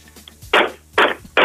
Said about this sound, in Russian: Ну, об дверь, если только. Давай, давай. Давай, подойди, прислони, пожалуйста, этот телефон к двери и стучи.